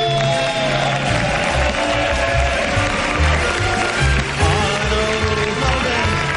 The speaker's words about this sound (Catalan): Fort aplaudiment de nou per l'Oriol de Balanzó!